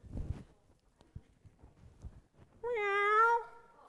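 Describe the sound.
A person imitates a cat for an audience to guess, voicing a single drawn-out, loud meow, rising then falling, preceded by a few soft taps and low knocks.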